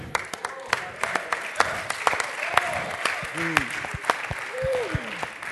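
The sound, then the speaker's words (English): A church audience claps in a scattered, uneven burst of sharp hand claps, moderately loud, while voices call out and someone speaks over the applause. “Everybody ain't clapping about that because some people rather be a Church of Christ.”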